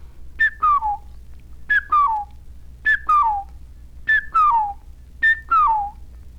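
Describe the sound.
A whistled two-note figure from the "tea kettle" exercise for practising low double notes in the throat: a short bright note followed by a downward-sliding one, repeated five times at a steady rhythm. Clear and fairly loud, with no talking.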